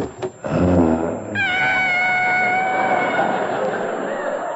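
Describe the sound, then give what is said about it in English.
A savage tiger being washed in a bathroom snarls: a rough, low growl rises into a long, loud, wavering yowl that holds its strained pitch for several seconds before trailing off. “He's washing a savage tiger.”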